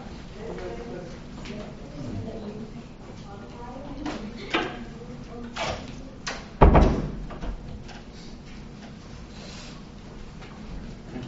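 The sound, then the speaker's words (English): A door swings closed with a single solid thud partway through, standing out sharply against a background of faint voices and room noise. “I think we need to shut that door.”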